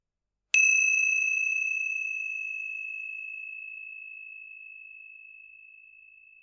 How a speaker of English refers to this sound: Let one stroke of the bell signal the beginning of a meditation, and let three bells signal the ending of a meditation.